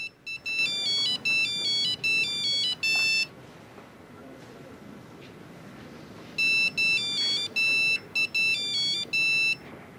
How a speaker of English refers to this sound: Chrissy's in the back of a taxi, calling Sasha on his mobile. But the phone rings in Sasha's locker, unanswered.